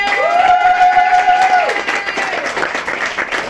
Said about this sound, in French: Mesdames et messieurs, je me présente face à vous ce soir et je vais chanter le sujet d'une personne qui a eu le courage de venir et je vous demanderai de l'applaudir.